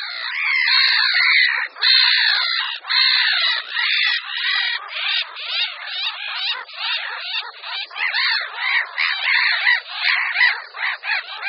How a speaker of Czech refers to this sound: Slyšíme hlasy poměrně malé a celkem poklidné kolonie racků chechtavých, která se nachází někde v mokřině u rybníka či na nějakém ostrůvku.